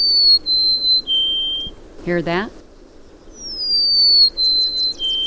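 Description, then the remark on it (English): A golden-crowned sparrow sings two phrases of clear, high whistled notes stepping downward, sweet and steady. A brief spoken question falls between the two phrases. “That's our June bird of the month, the golden-crowned sparrow. Hard to miss that bird's call.”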